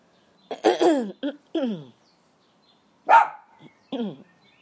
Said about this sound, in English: He's barking because Tina's doing something in her garden.